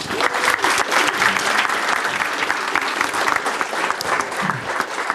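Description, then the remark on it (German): Steady applause from an audience, many hands clapping continuously at a fairly loud, even level for several seconds, with a faint murmur of voices mixed in. “das ist, glaube ich, einen kleinen Applaus wert.”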